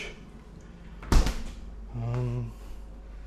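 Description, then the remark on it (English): A fridge door shuts with a single solid thump over a low steady hum as the fridge is checked while packing up, followed about a second later by a brief droning, tonal sound lasting roughly half a second. “And just packing everything up. Checking the fridge.”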